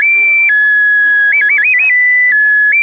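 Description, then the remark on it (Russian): A clay bird-shaped toy whistle blown in a loud, continuous shrill tone that steps between two pitches, with a quick warbling trill in the middle, unbroken for about three seconds. “А эта птичка тебе для чего? Ну, чтобы свистеть и чтобы играть.”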